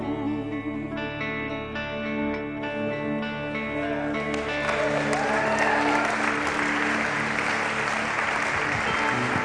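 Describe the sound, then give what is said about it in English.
An audience bursts into loud, sustained clapping in praise of God partway through, a dense wash of many hands building over the fading sustained tones of worship music that precede it. “Well, let's give God a big hand clap of praise.”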